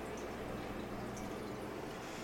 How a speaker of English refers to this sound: So, I thought I poured more tea than this. Whoops. Or more water for the tea, anyway.